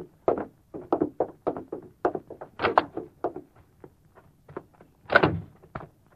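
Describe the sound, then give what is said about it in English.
A back door is handled: a quick run of knocks and rattling thumps, with sharper bangs as it opens and swings shut, and no one speaking. “There's the back door, Doc. Go right out that way.”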